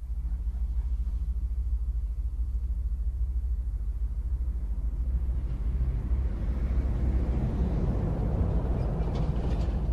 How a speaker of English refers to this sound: You can hear the trains around you, and as you enter or leave a depot, you are told.